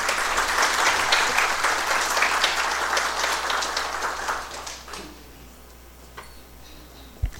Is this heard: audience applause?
yes